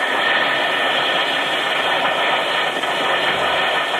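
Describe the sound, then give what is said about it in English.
An Alka-Seltzer tablet fizzes in water, giving a steady, dense crackling hiss that stays at an even loudness throughout, with no voices over it. “Listen to it fizz.”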